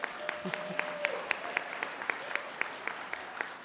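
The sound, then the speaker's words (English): Audience applause with steady, evenly spaced claps at moderate volume from a modest crowd for a few seconds, at a National Federation of the Blind (NFB) talk on its legal program. “And this deserves applause.”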